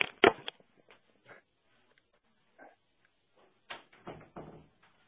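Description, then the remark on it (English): A door closes with a sharp thump near the start, followed by scattered quieter handling noises, then a few more knocks and rattles as it settles; no one speaks. “I'm excited that we're starting, but at the same time, I'm like, oh, let me close the door.”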